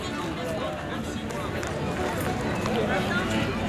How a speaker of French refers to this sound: Un peu de musique et à présent un bain de foule.